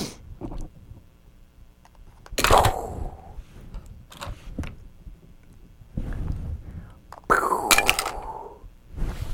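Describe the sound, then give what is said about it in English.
A toy block tower is knocked down piece by piece, a few separate sharp clacks and clatters spaced seconds apart, with quiet background murmuring between the knocks. “You knocked down my... Oh, one by one.”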